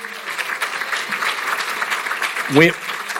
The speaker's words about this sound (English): So thank you to the City of Chicago, the Office of the Mayor, Cook County Health and Hospital Systems. Right over here, I saw the Greater Chicago Food Depository. All, please give these folks a round of applause, but don't worry.